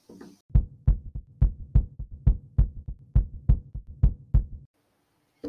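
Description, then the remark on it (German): A steady heartbeat thumps in a lub-dub rhythm, about a dozen deep, booming beats over four seconds, loud with a low resonant throb, then it stops. “Na, wenn wir ein nächstes Thema haben, sollten wir klopfen lassen? Sollten wir Herzklopfen.”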